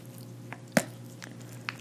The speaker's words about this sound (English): You see how much lube I'm pouring onto it, darling?